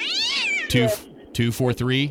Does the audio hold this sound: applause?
no